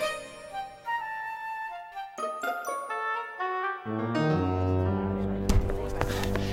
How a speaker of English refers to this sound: The bell works, sir. But thank you for testing it.